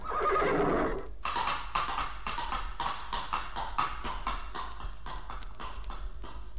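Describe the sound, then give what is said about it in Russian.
A horse gives a loud, shrill whinny, then its hooves clip-clop in a steady, brisk rhythm for several seconds. “Молю богов, чтобы они прибавили сил моему коню.”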